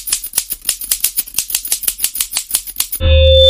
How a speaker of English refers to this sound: 6 clicking fingers is way better than 4 clicking fingers.